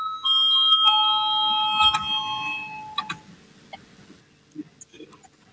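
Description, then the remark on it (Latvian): A parliamentary voting bell rings out loudly as a sustained, multi-tone electronic chime with a few sharper strikes near the end, calling a vote on the Legal Bureau's 14th proposal, then cuts off, leaving faint rustle. “Lūdzu zvanu, balsosim par 14. Juridiskā biroja priekšlikumu.”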